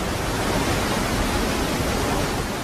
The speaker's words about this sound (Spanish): Una G produce el sueño de todo surfista, la ola perfecta.